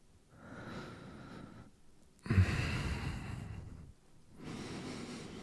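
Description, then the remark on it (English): Three slow, heavy breaths drawn and pushed through the nose, breathy, with the middle one loudest and sharpest at its start, like a deep sniff; no talking. “Breathing through my nose, smelling you.”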